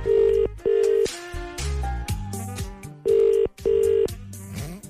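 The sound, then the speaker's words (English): A telephone ringback tone on an outgoing call transferred to an accounts department in Dundalk: two pairs of short, steady double-ring pulses, loud and clear, separated by a stretch of other tonal phone-line sound. “You are being transferred to 8871. That's not a Dundalk accent. No. It's ringing.”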